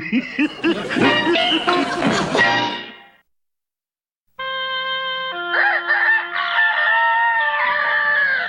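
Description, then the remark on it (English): A loud rooster crows twice as a morning wake-up call: a long, raspy cock-a-doodle-doo, a second of silence, then another drawn-out, strained crow, with no talking. “I'll be glad when real roosters develop. I'll sleep in every morning.”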